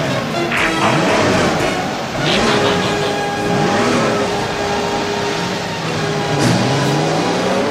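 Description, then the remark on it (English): The Autobots' car engines start and rev loudly and continuously, their pitch sweeping up and down in overlapping surges as they accelerate, with no voices. “Autobots, start your engines! Ready, Prime? Let's roll!”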